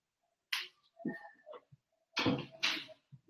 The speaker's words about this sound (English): Let me shut the door 1 second.